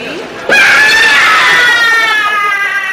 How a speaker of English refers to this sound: that's the great Ramsdale hairy thing screaming.